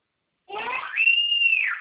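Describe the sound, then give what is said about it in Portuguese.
A woman shouts in one long, high-pitched cry that rises, holds a strained note, then trails downward over about a second and a half, fairly loud with nothing else around it. “É que a senhora gritando aqui, não dá pra ouvir, não.”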